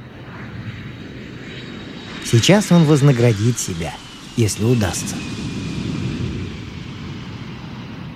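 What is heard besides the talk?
airplane landing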